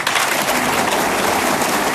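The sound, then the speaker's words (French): A concert audience at a singer's live concert, recorded in Plougastel, claps steadily for a guitarist, a dense crackling wash of many hands that stays loud and even for the whole two seconds, with no voices over it. “Je vais vous demander d'applaudir à la guitare ce soir, Monsieur ….”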